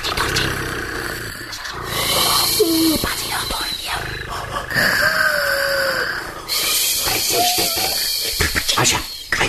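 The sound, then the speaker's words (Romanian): A person imitates a cat's purr with a steady, rough rumble that carries on for several seconds, pausing briefly, over a faint high chirping background. “Așa, stai să-i mai torc puțin.”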